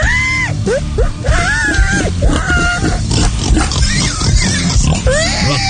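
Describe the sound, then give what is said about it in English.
A man's voice imitates a pig, rapid grunting oinks and rising, wavering squeals running continuously and loudly for several seconds. “I can talk pig language.”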